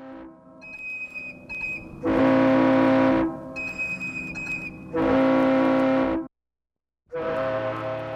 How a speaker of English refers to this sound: The musicality of that and the textures in those horns and whistles and the pathos almost in them too, as well as this chirping sound, which undercut that with almost maybe a cartoon lively quality, those textures started to be apparent to me.